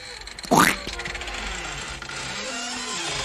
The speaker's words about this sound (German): Da knarzt's.